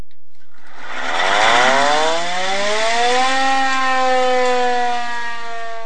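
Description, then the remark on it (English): A hand-crank siren on the dash of a 1928 Model A Ford antique fire truck of the Petersburg fire department winds up from a low growl, its pitch climbing steadily over a few seconds, then holds a loud, steady wailing tone with a slight rough, mechanical edge. “It's a hand crank siren that sits on the dash of this 1928 Model A Ford fire truck.”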